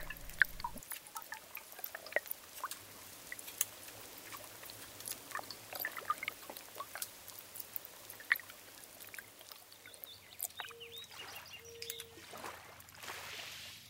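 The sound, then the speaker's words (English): Quiet river water burbling and trickling steadily, with scattered drips and small splashes popping out of the flow; no voices, just a faint low hum at the very start. “No river, in my experience, has an overall characteristic, you know, by which you could identify, that's the Danube, or that's the Hudson, or that's the Housatonic.”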